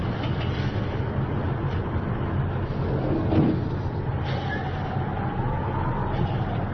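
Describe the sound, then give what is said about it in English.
A bus engine rumbles steadily throughout, a dense low drone with a faint rising whine partway through and no pauses or voices, as the bus makes its final run of the night. “Driver, does this bus take me to the end?”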